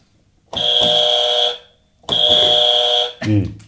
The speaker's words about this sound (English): So I click the buzzer. Yeah. You think of the alphabet, and then I click it again.